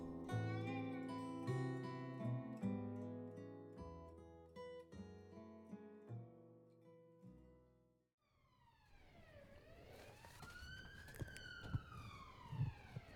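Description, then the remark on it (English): After a few seconds of music, a loud emergency vehicle siren wails up and down with sweeping pitch as it passes by over Donington Bridge Road, on the edge of a city, in the morning, over rumbling traffic and wind noise. “Very loud siren going by this morning over Donington Bridge Road.”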